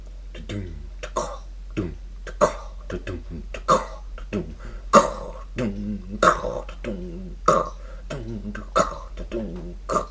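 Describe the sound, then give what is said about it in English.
A voice imitates a squash ball hitting a court, making a long string of short, punchy clicks and pops from the mouth and throat, repeated in a loose, uneven rhythm. “I was just kind of visualizing like the sound of a ball hitting a squash court.”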